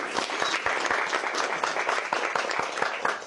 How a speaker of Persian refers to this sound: تشویقشون کنین.